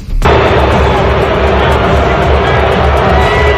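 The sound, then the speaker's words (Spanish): A stadium crowd at the Super Bowl final in the United States erupts abruptly into loud, sustained booing and whistling at singer Taylor Swift, a dense, steady roar of many voices that holds at full strength for several seconds with no one speaking over it. “Recibido con algunos abucheos, con pitidos que han provocado miradas de desconcierto de la propia Taylor Swift.”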